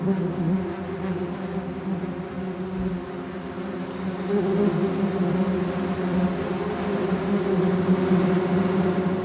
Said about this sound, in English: So that was the first of them, which was a wasp.